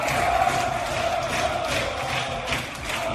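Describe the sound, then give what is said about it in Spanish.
A large stadium crowd roars in sustained applause and cheering, an ovation for footballer Marwan Sanadi on his return to the Cesarre to say goodbye to Baracaldo's fans; a dense, steady wash of noise at full volume throughout, with no single voice standing out. “¿El sonido? Una ovación, Manolo, la que recibió Marwan Sanadi, que volvió a la Cesarre para despedirse de la afición del Baracaldo.”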